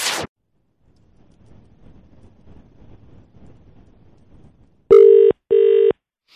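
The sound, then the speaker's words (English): Two loud, steady electronic ringback tones of a phone call placed by the radio show Rise and Shine on Vision in Australia sound in quick succession, each lasting about half a second, following a stretch of faint low rumbling noise after a brief burst of hiss. “It's ringing, that's encouraging.”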